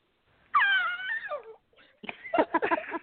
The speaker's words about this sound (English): That's the first time in the history of this show that we've had a scream. So I'm not sure what to make of that, but we'll continue.